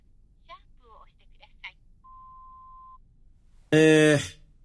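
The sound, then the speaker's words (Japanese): A phone call from a man trapped in an elevator to his company's office reaches an answering machine: a few faint, garbled snippets of a recorded greeting, then a steady one-second beep, followed by a sudden loud burst of his voice as he starts leaving a message. “つながっ、留守電。”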